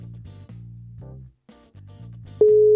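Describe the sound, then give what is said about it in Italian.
A short run of buzzy electronic notes steps along, then a loud, steady telephone ringing tone kicks in near the end as an outgoing call connects. No one speaks. “Se non lo telefoniamo, non sappiamo chi è. E adesso lo chiamo.”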